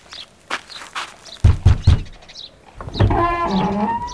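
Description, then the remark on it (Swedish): Three heavy, dull knocks land on a door in quick succession, followed a moment later by a drawn-out, squeaky wavering tone, with faint chirps in the background. “Så knacka nu, annars gör jag det.”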